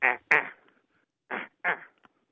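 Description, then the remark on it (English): A person imitates a harsh, loud insect call heard in late summer, likened to a katydid, with the voice: four loud, rasping, buzzy bursts, arranged as two quick pairs separated by a short pause. “Now that sounds to me a little like a katydid. It's quite a harsh, loud sound.”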